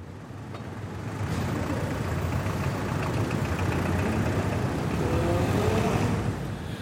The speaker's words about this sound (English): London traffic.